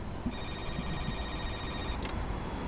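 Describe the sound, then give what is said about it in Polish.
An intercom at the OPR office on Roosevelta Street 17 rings with a steady, high electronic buzzing tone lasting under two seconds, then a brief second burst, over low background rumble and no talking. “Dzwonię domofonem w Opru, ale...”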